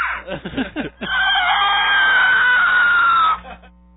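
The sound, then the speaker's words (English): A person screams right into the microphone: a few short, choppy vocal bursts, then one loud, sustained, shrill scream lasting a couple of seconds before cutting off abruptly. “Scream into the mic. Scream.”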